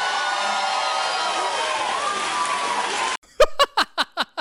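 A crowd claps and murmurs in a dense, steady wash for about three seconds, then it cuts out and a few sharp, evenly spaced single claps ring out, about seven in a row.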